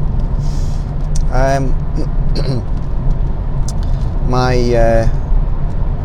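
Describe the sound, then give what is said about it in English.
Steady, loud low rumble of a car travelling at 35 miles per hour on the Edinburgh City Bypass on a 3°C morning drive to work, heard from inside the vehicle, with a person speaking in short bursts over the continuous engine and tyre noise. “I'm in the car driving to work, it's 3 degrees centigrade, travelling currently at 35 miles per hour on the Edinburgh City Bypass, E720.”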